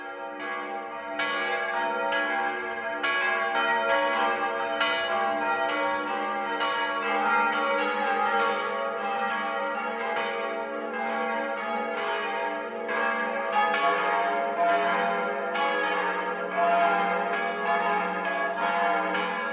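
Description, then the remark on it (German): Six bronze church bells, two from 1772 and two from 2000, in the tower of the Münster Unsere Liebe Frau on the market square in Lindau on Lake Constance ring the 12 o'clock midday peal, overlapping strikes in a steady, dense rhythm with rich lingering overtones, loud and continuous with no voices. “Das Mittagsläuten kommt heute aus Lindau.”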